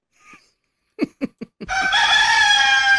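An emotional support rooster, brought by a passenger trying to board a domestic flight, at airport security in Texas, gives a faint chirp and four quick, punchy clucks, then launches into a loud, sustained crow that carries on to the end.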